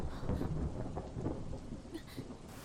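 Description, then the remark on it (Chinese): Low, rolling thunder rumbles steadily beneath a dense wash of falling rain, the storm continuous with no voices present. “怎么又打雷了？”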